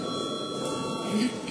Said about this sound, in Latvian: Kolēģi, līdz ar to darba kārtība ir izskatīta un aicinu reģistrēties. Lūdzu zvanu.